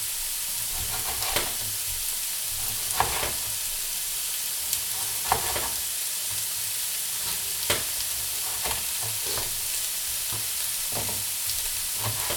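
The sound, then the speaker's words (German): Irregular knife taps on a cutting board as a tomato is diced into small cubes, a dozen or so sharp clicks spaced unevenly, heard over a steady frying sizzle; no one speaks. “In der Zeit, jetzt habe ich ja Platz auf meinem Schneidebrett, schneide ich schon mal die Tomate in kleine Würfel.”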